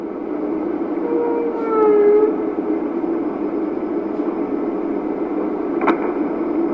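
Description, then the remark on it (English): Underwater recording of whale sounds: a few short rising whistles and a low moan-like tone over a steady hiss, then a single sharp pop near the end. “Scientists hope that the whistles, moans, and pops of the whales might help provide one more technological tool for that mix.”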